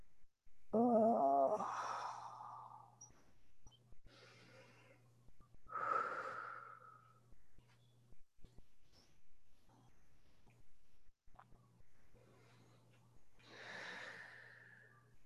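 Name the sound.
breathing in through nose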